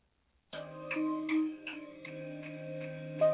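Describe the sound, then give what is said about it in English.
A steady clock-like tick-tock, evenly spaced about two or three ticks per second, sounds over sustained musical tones and a low drone, with no voices. “My snooze button broke, but my clock keep ticking.”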